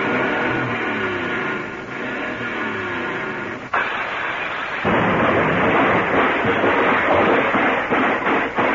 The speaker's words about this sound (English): Let's give the motor a real good turnover. Let's hear it before you. Well, hold your microphone down there by the hood. You can get it real good if you want to. All right. Let me get this thing all revved up.